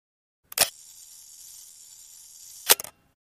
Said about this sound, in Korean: 잠시 뒤 찰칵 하고 셔터가 떨어졌다.